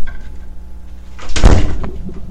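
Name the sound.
door being opened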